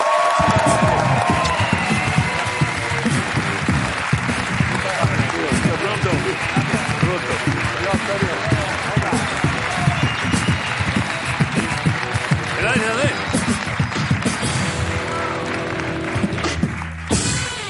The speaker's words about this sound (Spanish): Vale, este viernes se estrena Cuatro Latas, dirigida por Gerardo Olivares y por Jean Reno, que ha venido aquí. Un aplauso para los dos. Muchas gracias por venir.